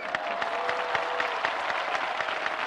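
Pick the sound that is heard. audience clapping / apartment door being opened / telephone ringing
audience clapping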